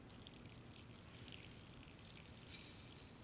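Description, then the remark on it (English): Water pours in a steady, soft trickle, splashing gently and continuously with a few brighter spatters near the end. It is fairly quiet, with no voices. “This is the water on which God breathed and the Spirit brooded when God began creating us.”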